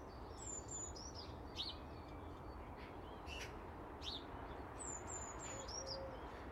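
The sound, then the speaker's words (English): Thin, high-pitched, piercing calls from a blue tit at the top of a large Lalandi conifer repeat several times in short bursts over a steady outdoor hiss, fairly faint. “So there's a wee blue tit. I don't know if you can hear it. Right at the top of the big Lalandi conifer.”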